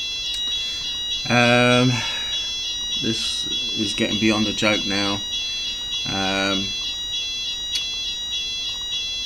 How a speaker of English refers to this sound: The alarm, as you can hear in the background, is going off again. This is the third time in the space of a fortnight. Actually, this time I thought it was myself who set it off, because I've been washing the hall floor with hot water